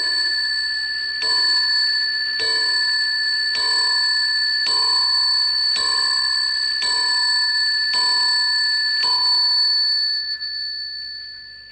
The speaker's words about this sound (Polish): To jest oryginalny Ludwik w brązie, kominkowy, bardzo bogaty, prawda, ale też pojedyncze ma bicie dzwonkowe.